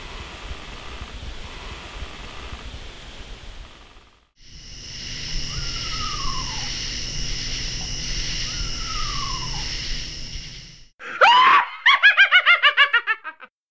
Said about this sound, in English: What better than the sounds of creaking hollow trees, an owl screech, and an imaginary witch laugh to conjure up a Halloween landscape?